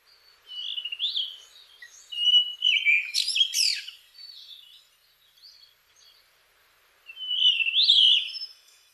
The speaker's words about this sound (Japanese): イソヒヨドリです。